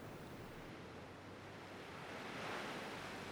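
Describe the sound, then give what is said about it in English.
Steady Pacific Ocean surf washing in, a broad rushing roar of breaking waves that swells slightly louder toward the end, with no voices over it. “That was …, written and performed by us and the Pacific Ocean”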